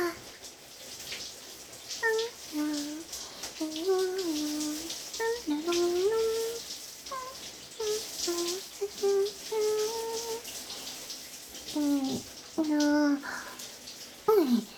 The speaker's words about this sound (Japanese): まんべんなく濡らせたかな。 じゃあシャワーはこのくらいにして